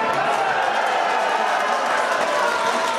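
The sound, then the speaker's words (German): A crowd cheers loudly in a steady, dense roar of many voices, with no single voice standing out, sustained at an even level, as the 6 p.m. election forecast figures for the SPD in Bremen flash across the screens. “Der Rest geht in lautem Jubel unter, als die Zahlen der Prognose über die Bildschirme flimmern.”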